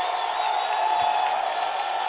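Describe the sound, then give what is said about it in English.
A dense, steady roar of a large stadium crowd of Vikings fans rising to their feet and cheering during an American football game, a continuous wash of noise that holds at an even loudness throughout, with no one speaking. “You hear the Viking crowd to their feet.”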